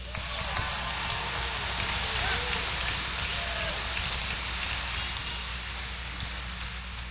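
An audience applauds, a dense, steady wash of many hands clapping that holds at a fairly even loudness for about seven seconds, with no voices standing out.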